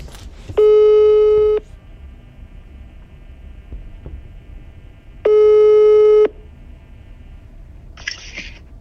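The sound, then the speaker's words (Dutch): A telephone ringback tone sounds twice while calling a karate dojo. Each burst is about a second long and steady, separated by a pause of several seconds over faint line noise, then a brief click-like noise at the end. “Ik heb het telefoonnummer van deze dojo online gevonden en contact gezocht.”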